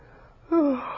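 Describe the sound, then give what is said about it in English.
A single short, breathy yawn with a voiced, downward-sliding moan, fairly loud, trailing off quickly. “You should never yawn.”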